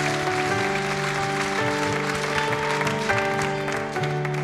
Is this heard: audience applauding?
yes